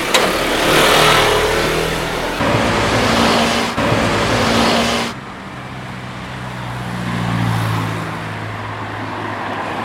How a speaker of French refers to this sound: Attention au scooter. Attention au scooter.